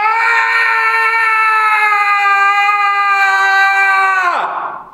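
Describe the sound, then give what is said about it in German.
A child screams in one long, sustained, high-pitched wail lasting several seconds, loud and steady, before the cry drops sharply in pitch and breaks off at the end. “hat geschrien, genau. Ich schneide den mal rein. Mit diesem Schrei.”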